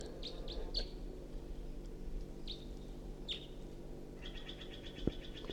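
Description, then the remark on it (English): A wild bird perched in a tree above a net sings in short, bright chirps and trills, repeated at irregular intervals over a steady low outdoor rumble, with a quicker run of notes toward the end. “It's recording a wild bird.”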